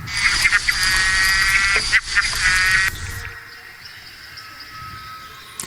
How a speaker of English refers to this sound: Fourth frog.